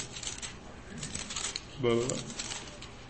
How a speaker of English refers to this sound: Turning pages. 1 Timothy chapter 4.